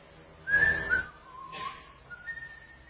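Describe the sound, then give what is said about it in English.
An old man whistles a short tune of a few sliding notes while sweeping with a stiff brush, clear, with a couple of brief brushy swishes underneath and no talking. “And he picked it up, threw all the water on the ground, and took a stiff brush, and he started to sweep and whistle like this.”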